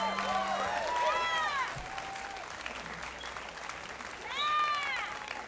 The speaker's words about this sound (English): Give a big round of applause, everyone.